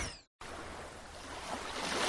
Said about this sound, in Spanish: ¿Lo escuchas? Es el mar, reinventando tus platos.